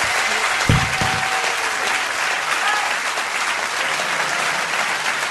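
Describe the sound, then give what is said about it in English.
A large audience claps steadily, a dense wash of applause for several seconds, with a brief whistle or cheer rising near the start. “give a massive round of applause to Libby”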